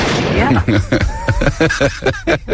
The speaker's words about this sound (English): Gunshot.